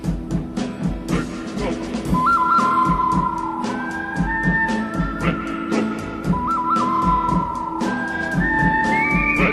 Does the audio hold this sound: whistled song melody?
yes